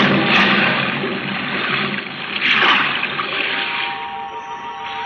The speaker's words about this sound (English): Now, hoist you up and overboard and dive with your equipment well in hand into the sea and under it.